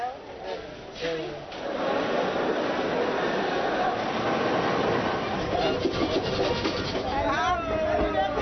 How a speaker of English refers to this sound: The train leaves Lagos, Nigeria's largest city, every Friday at about 12 o'clock.